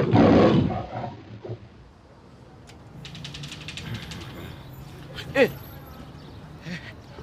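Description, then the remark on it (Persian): A camel lying at the door of a house lets out a loud, guttural roaring grunt, followed by quieter rumbling grunts and gurgles over a few seconds of outdoor background noise. “این چی چیه؟ این شطوری کیه؟ صاحب این شطور کیه؟”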